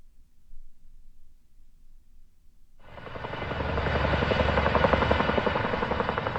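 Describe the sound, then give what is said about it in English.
A low rumble gives way to a loud helicopter roaring, its rotor thump and turbine whine building and holding steady as it hovers while pulling water out of Chatfield Reservoir in Jefferson County to fight the Quarry Fire; no one speaks. “Sounds there from journalist Kara McKinley of choppers pulling water out of the Chatfield Reservoir today to fight the Quarry Fire”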